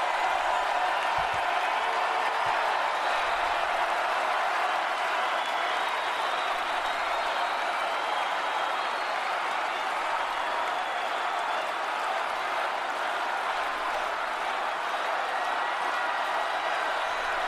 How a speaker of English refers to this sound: Crowd not happy with Ted Cruz here particularly. And then the chanting is, "We want Trump."